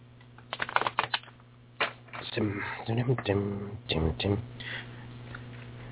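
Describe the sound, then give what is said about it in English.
A deck of animal cards is shuffled, a quick burst of crisp riffling clicks, followed by a person speaking over a low steady hum. “All right, let me shuffle them around a little bit real quick here as the animals move through their”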